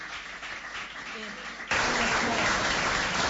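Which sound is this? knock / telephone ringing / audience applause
audience applause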